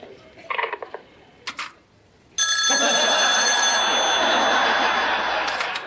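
A few brief, soft bursts give way to a loud telephone bell that rings continuously and harshly, its bright metallic tone holding steady until the end.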